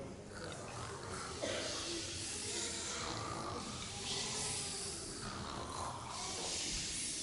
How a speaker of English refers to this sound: snoring.